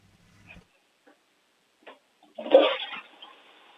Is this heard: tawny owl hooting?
no